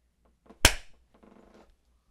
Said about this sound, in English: I'm gonna clap at you. Okay. Ready?